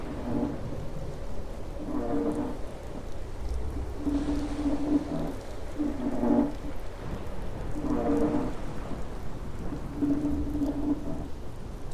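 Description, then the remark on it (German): Heavy rain pours down in a steady, dense hiss, with low rumbles of thunder rolling underneath and a few recurring tonal swells rising and fading over the downpour. “Eines Tages kam ein starker Regen und ließ den Fluss gefährlich anschwellen.”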